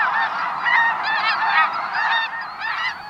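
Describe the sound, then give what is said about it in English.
A large flock of snow geese honks continuously, many overlapping nasal calls forming a dense, noisy chorus at steady volume, with no voices present. “When we watch birds, they're often in flight. Snow geese.”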